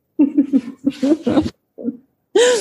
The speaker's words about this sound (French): Faut en profiter pour tousser.